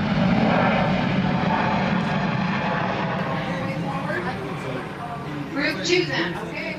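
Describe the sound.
A propeller airplane engine drones loudly and steadily for the whole stretch, a continuous rumbling roar, with a faint voice surfacing beneath it near the end.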